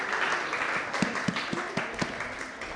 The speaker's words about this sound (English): Can you come forward and collect it on his behalf? A round of applause.